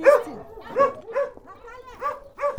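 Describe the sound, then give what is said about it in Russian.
A dog missing two legs barks in a run of about five short, high, whiny barks spaced irregularly, moderately loud, with no talking over them. “Эту собачку, когда она была подростком, она зашла просто во двор к человеку.”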